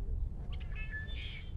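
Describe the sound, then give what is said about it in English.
A red-winged blackbird gives a short, metallic call: a couple of quick notes followed by a buzzy, electronic-sounding trill, heard alone over low background rumble. “This is a red-winged blackbird.”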